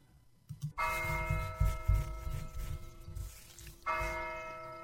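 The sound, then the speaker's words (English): Church bells ring out loudly, two big strikes about three seconds apart, each leaving a long shimmering hum that lingers between them, with a low rumble underneath and no voices. “And for the next few moments, we're going to think about the bells, the church bells.”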